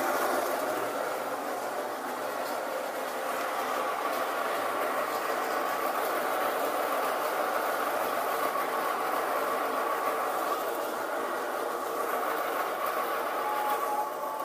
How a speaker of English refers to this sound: Pour it in my grinder. This is going to get really loud, so I'll try and back away if I can. Here we go. It's going to get loud. It's starting now.